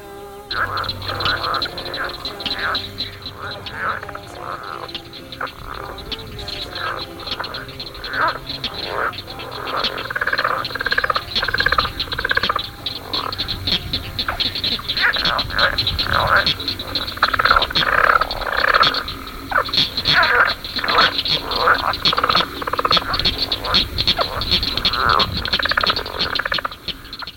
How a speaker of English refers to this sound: A somewhat smaller frog with paired vocal sacs that appear as balloon-like protuberances on each side of the throat is a leopard frog, Ranipipiens. This is its mating call.